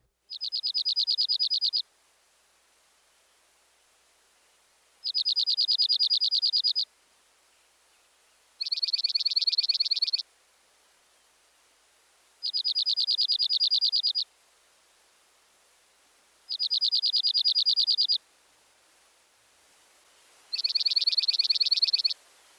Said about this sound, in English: The third bird in this group is the dark-eyed junco. His rapid trill is sweeter and more musical than the first two species. Here's the junco.